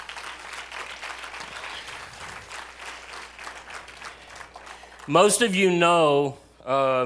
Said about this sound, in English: All right, everybody give a round of applause.